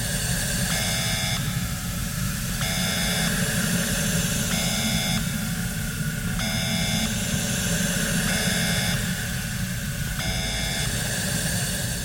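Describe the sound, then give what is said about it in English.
A steady, loud rushing hiss like a blast of spray or air during a decontamination procedure, with a harmonic electronic beep sounding about every two seconds, six beeps in all, over the constant noise. “Please close your eyes and mouth and do not open them until you hear beeping.”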